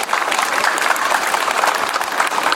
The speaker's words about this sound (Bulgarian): Моля вашите аплодисменти за всички тях!